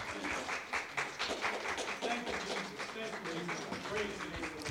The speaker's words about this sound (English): Clap your hands. Give God the praise and the glory and the honor.